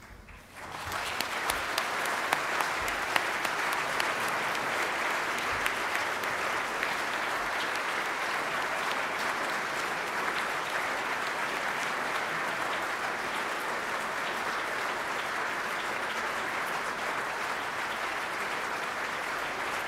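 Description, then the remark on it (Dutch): A large audience applauds loudly and steadily for about twenty seconds, a dense, sustained wash of clapping that starts abruptly and holds at an even level throughout, with no talking, welcoming the mayor, his family and the commissioner at the mayor's farewell celebration. “En ik wil u graag gaan verzoeken om te gaan staan en onze burgemeester met zijn familie en de commissaris met een luid applaus van harte welkom te heten.”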